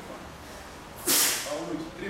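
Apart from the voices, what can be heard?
sneeze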